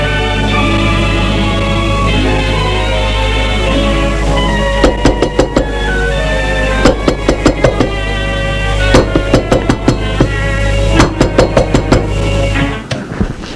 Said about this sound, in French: Frappé à la porte, ça les a fait sursauter.